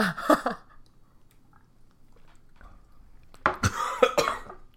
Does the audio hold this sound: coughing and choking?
yes